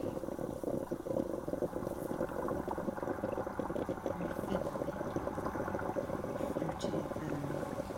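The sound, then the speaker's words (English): Steady bubbling and gurgling of a coffee pot coming to a boil on a stove, continuous for several seconds, with a dense, churning texture that stays at an even level throughout. “you know, a cheery 1960s design with kind of graphic kitchen print might instantly remind someone of a coffee pot gurgling away on a stove.”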